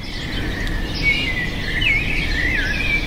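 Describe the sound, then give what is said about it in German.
Birds chirp and twitter in short, warbling phrases over a steady low background hum in Mexico City, clear with no voices present. “Stille und Vogelgezwitscher sind in der Stadt der sozialen Ungleichheit normalerweise ein Privileg für einige wenige, zumeist Reiche.”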